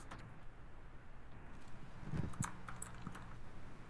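Quick, uneven clicks of someone typing on a computer keyboard, fairly quiet and slightly distant, over a low steady background hum, with no one speaking.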